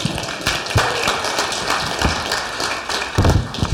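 An audience applauds, many hands clapping in a dense, steady patter for several seconds with a few sharper, louder claps standing out near the end. No one speaks.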